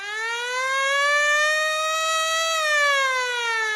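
A powerful siren blares steadily, its tone slowly rising then dipping slightly, loud with rich harmonics and no voices.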